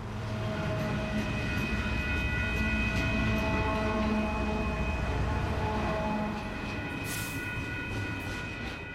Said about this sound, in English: The ghost train, or phantom train as it's sometimes called, has been witnessed more than a dozen times, and the people describe the train in the same manner.